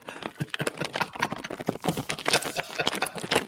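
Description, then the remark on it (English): A plastic Culligan water bottle crinkles continuously, with dense, irregular crackles and pops of fairly steady loudness throughout and no voices. “Well, yeah, I can hear the thing crinkling.”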